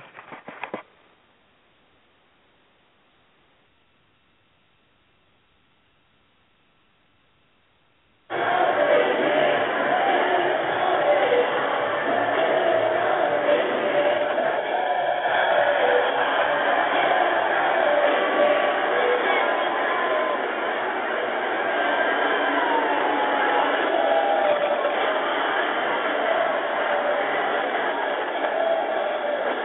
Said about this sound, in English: So anyway, we're going to go to New York and listen to the goings-on with the Times Square crowd.